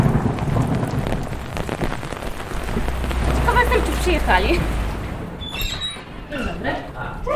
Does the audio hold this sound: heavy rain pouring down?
yes